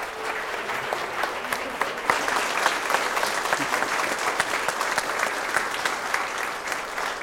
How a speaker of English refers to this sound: Would you join with me in giving an applause for these confirmations?